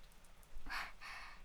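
Steady rain patters, a soft hiss of drops with two brief swells of heavier spatter, heard while sheltering from the rain outdoors, no voices present.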